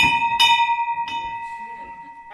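bell being rung

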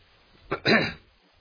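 coughing and throat clearing

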